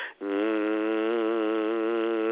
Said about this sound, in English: Hum with me.